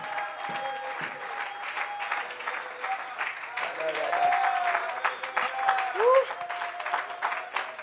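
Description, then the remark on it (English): An audience at a church service claps hands by faith in a dense, sustained burst of applause lasting the whole stretch, with voices calling and crying out over the clapping. “Why don't you clap your hands by faith and just let your spirit know I'm taking the Holy Ghost.”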